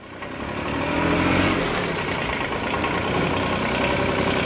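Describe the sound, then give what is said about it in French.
A tractor's heavy engine runs steadily as a farmer sets off on it at a farm, a low rumbling idle that rises slightly at the start and then holds a constant chugging drone, with no voices. “Le fermier part sur son tracteur.”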